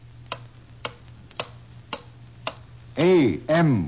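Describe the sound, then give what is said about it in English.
A clock ticks steadily, five crisp, evenly spaced ticks about half a second apart over a faint low hum, before a man's voice briefly speaks at the end, on a radio broadcast from WJSV, Washington, introducing an Amoco-sponsored news program. “With each ticking second, the history of the world is being rewritten.”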